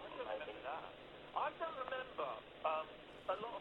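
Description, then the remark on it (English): A radio plays in the background, its thin, tinny voices chattering steadily at low volume with short bursts of talk and brief pauses. “Turn your radio off, man.”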